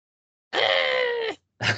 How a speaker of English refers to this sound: Oh. Wow! So, play the sound of a scream, as she now does a wailing attack.